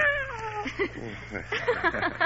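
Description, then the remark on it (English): A cat, Miss Jones, gives one drawn-out, falling meow, followed by softer murmuring, voice-like sounds, with a steady low hum underneath. “And this is our cat, Miss Jones.”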